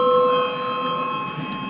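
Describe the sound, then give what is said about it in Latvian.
A voting bell in the Saeima, the Latvian parliament, sounds before deputies vote on a draft decision. It is a steady, unbroken electronic ring, holding one bright pitch with buzzy overtones throughout, fairly loud and with no one speaking over it. “Lūdzu zvanu.”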